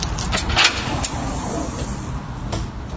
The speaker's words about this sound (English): Grass to my left, gate in front of me, door over to the right. Oh, push to open. Okay. I heard the beep. That means the door's unlocked.